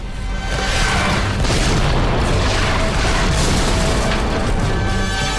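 Heavy cannons roar as two armies, Jedi and clone forces against droids, square up to each other in battle: deep thunderous blasts overlap into a dense, loud roar with crashing bursts and no speech.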